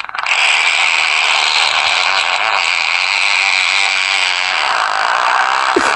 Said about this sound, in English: Somebody's mowing the lawn.